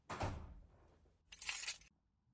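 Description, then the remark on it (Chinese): A set of keys is thrown and lands on the ground with a dull thump, then a second bright burst of metallic clinking and jangling follows, fairly loud, with no one speaking. “哎，你这个干嘛？有必要这样吗？这钥匙还能捡回来吗？”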